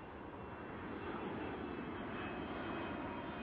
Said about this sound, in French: Ce jour-là, quelque chose de spécial se produit. Un petit avion tout rouge et scintillant passe au-dessus de ma tête.